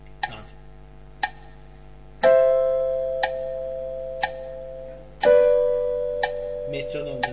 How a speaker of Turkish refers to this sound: Metronom da duyuyor. Evet. Metronom kaydetmiyor değil mi hocam? Yok. Şey yok. O sadece onu ölçüyor.